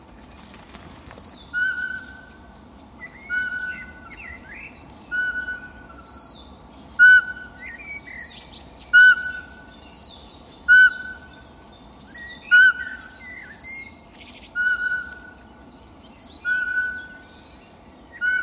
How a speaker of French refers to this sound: C'est une chouette. Oui, chevêchette. C'est la plus petite de nos chouettes.